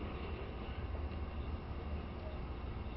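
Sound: train interior running noise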